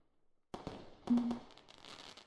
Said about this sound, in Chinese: 你往窗边看，烟花的盛放可真是美。我们两个在这里看着烟花，似乎有点寂寞呢。